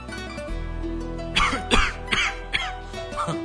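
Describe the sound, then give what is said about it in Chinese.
A series of about five short, raspy coughs in fairly quick succession, moderately loud, from a tired white fox character at daybreak, over a steady low background hum or music bed, with no talking. “当天色破晓时，雕狐累了，甚至有点咳嗽。”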